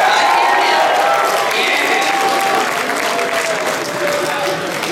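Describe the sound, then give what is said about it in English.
Loud, sustained audience applause fills the whole stretch, a dense steady patter of many hands clapping, with faint voices and a few cheers woven in underneath. “I think he wants some more applause, everyone.”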